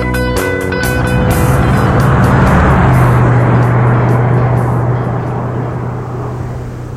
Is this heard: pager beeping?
no